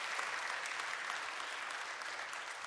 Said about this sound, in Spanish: Dale un aplauso a ese rey, hermano.